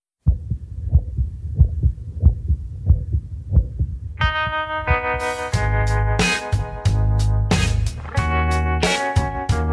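A recorded human heartbeat thumps alone, low, steady and close, about six beats; then a synth-laden song with a strong beat comes in and continues over the pulse.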